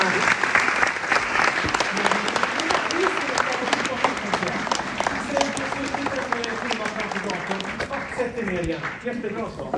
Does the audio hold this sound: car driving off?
no